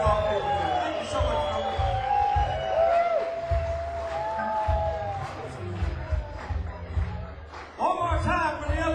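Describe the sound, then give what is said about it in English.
A concert audience applauds and cheers steadily for the stage crew, with whoops and shrill whistles cutting through the noisy, sustained roar, swelling again near the end. “Can we start off by giving a round of applause for the guys taking care of the stage and crew?”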